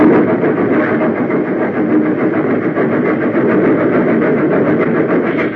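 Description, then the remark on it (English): A train engine rushes into a snow shed protecting a twisting track, roaring steadily and loudly, a dense, even rumble with a faint rhythmic churn that holds at constant volume throughout, with no voices. “Nearer and nearer it came, until finally the engine rushed into the funnel, and one by one the cars followed.”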